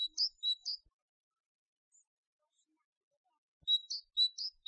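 A small bird chirps in two quick bursts of high, bright tweets, a flurry at the start and another near the end, with a quiet pause between and no talking.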